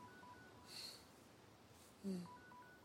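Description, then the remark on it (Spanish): A faint mobile phone ringtone on a beach among sand and rocks, short electronic tones repeating, with a brief breathy burst partway through and no one speaking. “Se oye el timbre de un móvil y él mira a su alrededor con asombro y confusión.”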